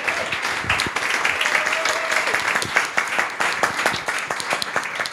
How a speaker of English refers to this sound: Oh my God, this applause is amazing. It's going to sound great on the audio, isn't it? I love this.